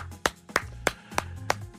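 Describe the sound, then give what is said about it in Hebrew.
Steady rhythmic clapping for Ben Caspit, crisp claps landing about three times a second in an even beat, like an audience clapping together, over a faint low hum with no voices. “תודה רבה, תודה רבה לכפיים.”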